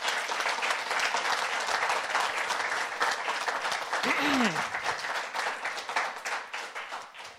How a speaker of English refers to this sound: So if it's appropriate, I'd like to get a round of applause.